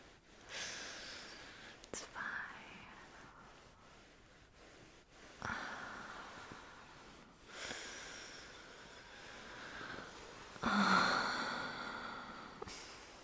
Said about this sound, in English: You don't like how I'm breathing in your ear? You keep moving your head away.